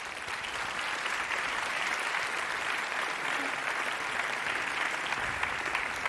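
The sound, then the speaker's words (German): Steady audience applause for two women speakers, a dense wash of many hands clapping at an even level for about six seconds, with no break and no voices standing out. “Und ich wünsche euch jetzt ganz viel Spaß und einen herzlichen Applaus für unsere beiden Speakerinnen.”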